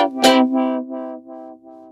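A power drill whines at a steady low pitch with a harsh, buzzy tone, starting with a sharp grinding burst and then pulsing in repeated surges that gradually fade. Someone is drilling and screwing outside a building at 8:45 on a weekend morning. No voices are heard.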